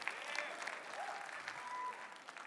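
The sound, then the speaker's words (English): A crowd claps together in church, a steady patter of many hands with a few faint whistles and tones drifting over the applause. “See, now if the Cowboys had won, you'd have been more excited in your clapping than you are with Jesus winning.”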